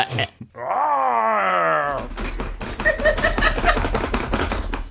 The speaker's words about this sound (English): Wow, that door sounded so realistic.